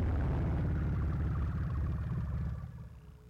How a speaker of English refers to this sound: That one is … Traffic Sacks, hooked up so you can hear what the traffic sounds like on Route 23 in Accra. Right now there's an old-timey car passing.